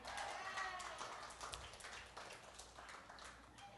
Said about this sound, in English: I was hoping for a longer clap so I could get a drink, but oh, too late.